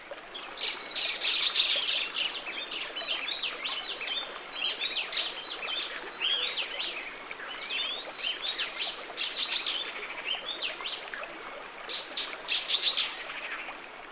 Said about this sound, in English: But the black-headed saltators are just across the river, vocalizing noisily every little while.